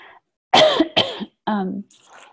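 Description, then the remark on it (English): Three loud coughs in quick succession, the last one rougher and more voiced, like a throat being cleared, with brief quiet gaps between them. “I can feel I'm going to cough.”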